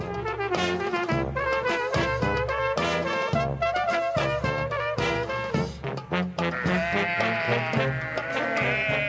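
A flock of sheep bleats loudly and continuously, many overlapping wavering cries filling the whole stretch with no pauses and no talking.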